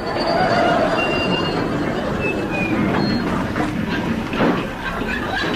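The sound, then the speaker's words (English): A train rumbles steadily along the rails with a loud, continuous rattling roar, joined by brief high-pitched wheel squeals that come and go. “It's the 1023 special calling at all stations to Haywards Heath.”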